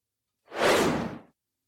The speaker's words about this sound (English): And I promise you that's the last whoosh for today.